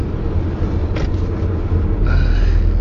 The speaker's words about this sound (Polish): Możecie słyszeć lekkie szumy, jadę samochodem, mam otwarte okno, ale zrobiło się tak gorąco, że nie sposób wysiedzieć przy zamkniętych szybach.